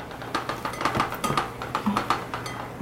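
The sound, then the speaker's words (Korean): Bowls and dishes clink and clatter repeatedly, a quick irregular series of ceramic knocks over a low background hum, with no one speaking. “그릇에서 소리가 많이 나네.”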